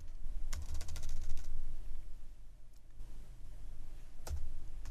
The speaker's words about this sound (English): So I'm just going to services dot add MVC. Oops. See, what is wrong with my typing?